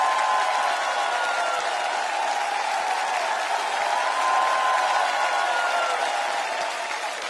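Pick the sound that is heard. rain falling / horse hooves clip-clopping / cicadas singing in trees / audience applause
audience applause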